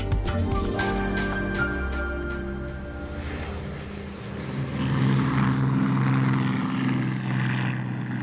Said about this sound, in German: Das dumpfe Dröhnen der Motoren ist zum Lebensnerv einer Stadt geworden. Das dumpfe Dröhnen der Motoren, das bei Regen und Hagel, bei Hitze und Sturm, bei Tag und bei Nacht nicht abreißen will. Berlin im Juni 1948.